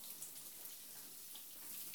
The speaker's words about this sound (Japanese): それでは、シャワーで泡を流してしまいましょう。お湯をかけていきますよ。右腕から胸にもかけて、泡を流していきます。